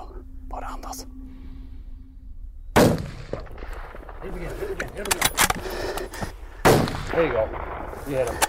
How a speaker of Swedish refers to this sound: Sen skjuter han flera skott för att fälla björnen innan den försvinner in i en dunge.